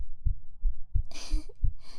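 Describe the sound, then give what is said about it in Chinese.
A muffled heartbeat, heard while someone is held in another's arms to sleep, thumps low and steady, three or four beats at a slow, even pace, with soft rustling hiss drifting in between the beats. “有听见艾姆的心跳声吗？”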